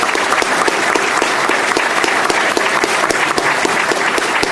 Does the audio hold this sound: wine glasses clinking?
no